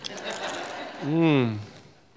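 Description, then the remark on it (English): Dry crunching of a tortilla chip being chewed as a snack for about a second, followed by a short, pleased hum from the same person. “They are crunchy and delicious. Do you remember the Lay's tagline from a few years ago? Bet you can't eat just one.”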